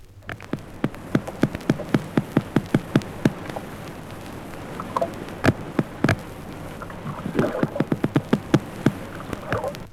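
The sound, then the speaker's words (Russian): Underwater biological sounds of sea animals recorded in the Caspian Sea: a dense series of sharp clicks and pops at an irregular rhythm, some louder than others, with brief faint tonal chirps over a low steady hiss. No one speaks. “В Каспийском море записаны новые биологические звуки.”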